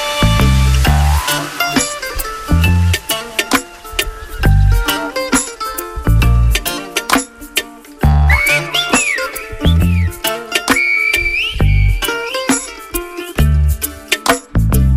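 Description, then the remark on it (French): A 2012 song with a steady, thumping bass beat and layered instruments, over which sharp, gliding tones of silbo, a whistled form of Spanish, rise and fall in short phrases, loud. “En 2012, le silbo a été mis en lumière dans la jolie chanson de …, que je vous propose d'écouter tout de suite”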